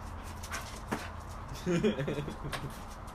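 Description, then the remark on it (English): A dog whimpers briefly: a short, wavering, high-pitched whine lasting under half a second, heard over a low, steady background hum. “Your dog doesn't know what to do.”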